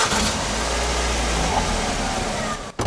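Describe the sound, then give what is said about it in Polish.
A car engine, whose engine mount was recently replaced, runs steadily with a constant low rumble and broad hissing noise, dropping out briefly near the end before resuming; no one speaks. “moglibyśmy posłuchać, jak on działa”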